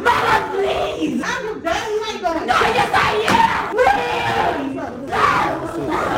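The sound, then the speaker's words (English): A girl screams in a raw, guttural tantrum after being punished by having her phone taken away. The screams are loud, with strained, ragged yells running almost nonstop for several seconds and only brief gasps between outbursts. “This sounds like the guttural, like, screaming of an animal and not a human.”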